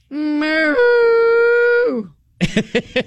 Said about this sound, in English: The most unlikely thing happened during this recent wedding in the UK. So if you can manage to make it through the day without a cow objecting to your wedding, you're doing okay.